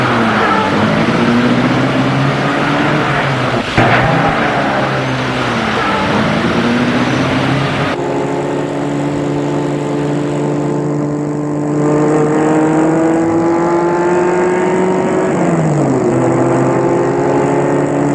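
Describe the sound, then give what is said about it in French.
A car engine hums steadily as a man drives home after leaving a building, its pitch rising and falling with gear changes and speed. The sound is continuous, with an abrupt shift in tone partway through and no voices. “Sorti de l'immeuble, il va prendre sa voiture pour rentrer chez lui.”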